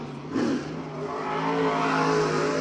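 A race car engine drones steadily as the car drives back to the pit stop after finishing a few laps at the Farmer City fair raceway, its pitch climbing slightly as it revs and rolls along, with no voices over it.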